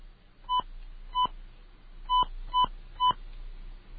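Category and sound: signal or alarm, telephone number being dialed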